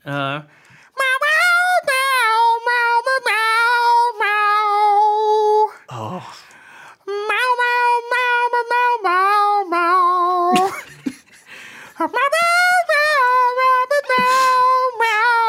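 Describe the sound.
A man sings a rock melody entirely in drawn-out cat meows, with sustained, wavering notes in phrases broken by short pauses. The voice is loud and alone.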